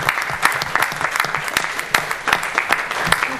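A steady round of applause from a crowd for a staff team at the Town of Port Hedland, dense overlapping claps with sharp individual hits throughout, sustained at an even, fairly loud level for a few seconds with no talking.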